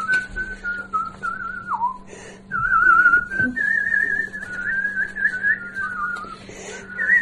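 An elderly pensioner from the Vyatka region whistles a continuous melodic tune, the pitch sliding and warbling between notes over a steady low hum, with a brief pause partway through before the melody resumes.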